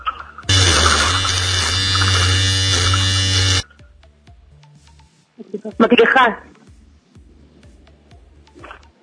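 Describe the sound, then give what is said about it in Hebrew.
A loud, steady electric buzz from a hair clipper runs continuously for about three seconds, then cuts off abruptly, followed by quieter voices talking. “לא, זה מכונת תספורת.”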